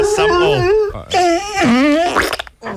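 A dog howls along to music in loud, drawn-out, wavering cries that rise and fall in pitch, with two long howls broken by a brief pause.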